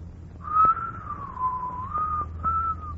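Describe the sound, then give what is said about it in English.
Someone whistles a slow, wavering melody, the pitch gliding smoothly between a few held notes, with a low background hum and a couple of faint clicks underneath. “you could make a man of yourself if you'd stop whistling and dreaming all the time.”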